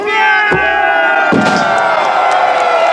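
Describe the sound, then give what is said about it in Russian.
Many male voices of battle reenactors raise loud, sustained victory cries together after a reenacted hand-to-hand battle for Taganrog, in which Cossacks drive back a French landing force. The shouting is a continuous wall of sound, broken by two sharp percussive knocks early on. “Раздаются победные крики.”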